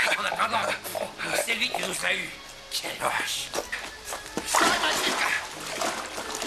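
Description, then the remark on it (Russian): A heavy splash as a man is thrown from a carriage into a river, amid churning water and a noisy, crowded scene with voices and commotion. “Выкидывает Дебрелье из кареты в реку.”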